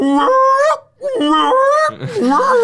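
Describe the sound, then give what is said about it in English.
A tornado alert siren in the WNEP newsroom wails in three loud, drawn-out honking blasts, each a buzzy, harmonic tone that bends upward in pitch, with brief gaps between them and no talking, alerting reporters, meteorologists and journalists. “You should hear the siren that goes off when the tornado”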